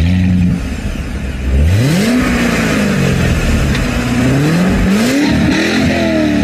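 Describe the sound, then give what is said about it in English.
A loud sports car engine revs with no voices: after a steady rumble, the pitch sweeps sharply upward, then rises and falls through several throttle blips in a continuous growl. “The fact of the matter is, the new Vette, I think it's a C8 model, I'm not 100% sure what they call it, is probably one of the most advanced cars”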